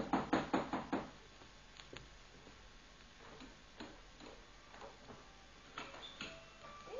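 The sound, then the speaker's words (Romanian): A quick series of about five sharp knocks on the closed wooden gate of a hut at the start, then a few scattered softer knocks, with another short burst of knocking near the end. “Da, dar porțile sunt închise. Nu-i nimic. Ciocănim și ne rugăm frumos”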